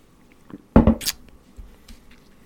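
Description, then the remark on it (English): A brief sip of coffee: a soft knock of a mug followed by a quick airy slurp, then quiet room tone with a faint rustle. No one speaks. “I'll have a sip of coffee while you're getting set so we can do this together.”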